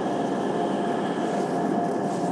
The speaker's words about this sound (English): And then I thought, well, I'll let this train get out of the way so I can actually hear something, or you can hear something.